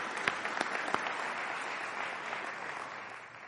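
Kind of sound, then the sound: crowd, audience applause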